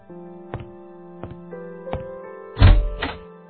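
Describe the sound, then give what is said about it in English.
Several knocks on the wooden door of a hotel suite at the Algonquin at steady intervals, followed by two heavier, louder thuds, all over a sustained musical tone in the background. “Alone in his suite at the Algonquin, Matt hears a knock on the door.”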